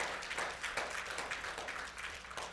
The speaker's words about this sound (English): Now, we sang a little bit earlier, if you truly can see the evidence of God's goodness all over your life, then I'm sure you won't have a problem joining me with giving God a hand clap of praise. That's right, amen.